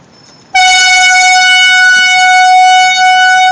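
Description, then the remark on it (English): A loud, sustained air horn blast kicks in abruptly after a brief quiet moment and holds steady at full volume, its harsh tone echoing slightly. Activists blow it in the lobby of the Numara office. “We only stayed there for about 20-25 minutes and then moved on to Numara, where activists did enter the lobby and with a air horn.”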